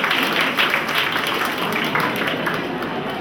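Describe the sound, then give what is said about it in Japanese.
An audience at a 25th anniversary gathering applauds the preparation staff, many hands clapping at once in a dense, even roar of claps that holds at a fairly loud level for a few seconds without any talking. “準備員の皆さんに拍手を一つよろしくお願いいたします。”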